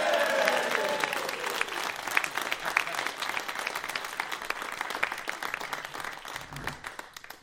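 A crowd bursts into sustained applause with some cheering for a guest being introduced, many hands clapping in a dense, steady wash that stays loud throughout before tapering slightly at the end.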